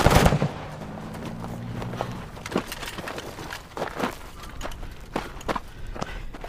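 A series of sharp, cracking gunshots fired at a car rings out at irregular intervals, loud, after a brief burst of low engine-like rumble at the start.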